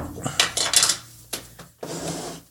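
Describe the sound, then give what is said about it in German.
Ice cubes clink and rattle against a glass in a few quick, irregular bursts, bright and crisp, with short gaps between them and no one talking. “Was sind das denn für Zwischengeräusche? Ach so, das sind die Eiswürfel.”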